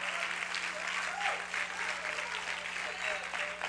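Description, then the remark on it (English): A crowd claps steadily as a hand clap of praise to God, a dense wash of many hands applauding at once with no pauses, and faint voices mixed into the noise. “Give God a hand clap of praise, if you will, before you sit down.”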